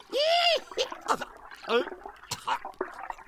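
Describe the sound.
A standing margarita of tequila is poured into a man's open mouth as he tilts his head back, gurgling and gargling loudly for a moment, followed by choppy bursts of voices and splutters.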